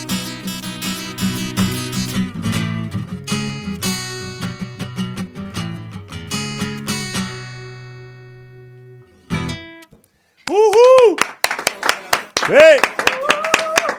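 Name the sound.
applause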